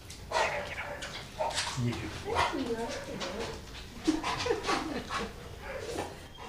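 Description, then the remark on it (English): A dog whimpers and gives short yips in repeated bursts across the whole stretch, rising and falling whines at moderate volume, with a busy, noisy background. “Looks like a happy dog.”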